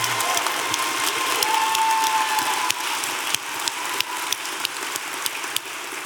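An audience at a live show at Sixth and I claps steadily, a dense wash of overlapping handclaps that holds strong for several seconds before thinning slightly, with a few sharper individual claps standing out near the end.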